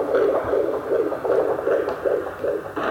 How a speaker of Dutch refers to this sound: Dat is het geluid van jouw hartje toen je nog bij mij in de buik zat.